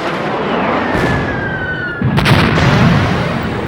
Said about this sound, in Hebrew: בשישה באוקטובר 1973, בשעה 2 בצהריים, פתחו הסורים בהרשה ארטילרית כבדה ובהפצצת מטוסים על הגולן.